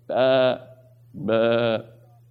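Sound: sheep bleating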